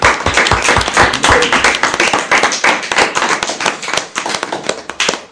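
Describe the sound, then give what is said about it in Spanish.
An audience breaks into sustained applause, many hands clapping densely and steadily for several seconds, loud and continuous with no voices on top. “Un aplauso.”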